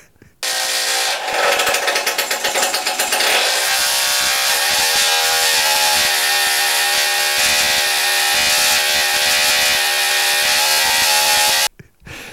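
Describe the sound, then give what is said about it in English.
The starter motor of a 125 single-cylinder motorcycle whirs and chatters for about three seconds before the engine catches, then runs at a loud, steady, buzzing idle until it abruptly cuts out. “you can hear the 125 single starter motor going, you know, pop, pop, pop, pop, pop, pop”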